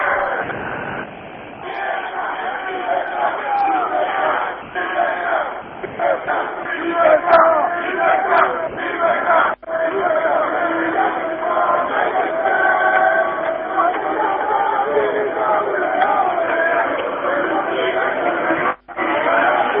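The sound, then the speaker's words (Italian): A protest crowd of comrades shouts slogans together, facing a police cordon in helmets and shields, in a dense, continuous roar of many voices, with rhythmic chanted bursts rising and falling over about twenty seconds, briefly cutting out twice. “I compagni stanno urlando gli slogan, io per il momento vi faccio sentire gli slogan dei compagni.”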